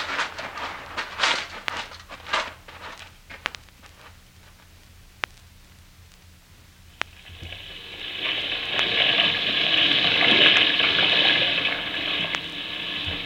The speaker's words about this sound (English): Let me turn this washing machine off, will you? So old you can't hear nothing when it's gone.